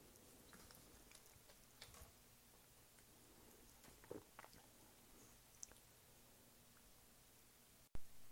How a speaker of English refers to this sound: I was not aware that I was recording right there as I was sipping beer. And that's so gross. Who wants to hear me sip beer? Nobody.